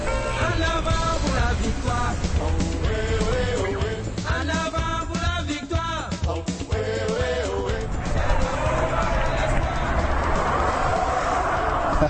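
Crowds of Parisians standing in front of screens at street cafés in Paris, France, shout and cheer while watching the French team's match in the evening, as the score reaches 1-0: loud overlapping voices rising in excited bursts over a steady low rumble that runs the whole time.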